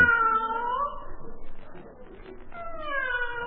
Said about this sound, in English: Now, why does that fool cat keep screaming its head off? Well, I'll just ignore it.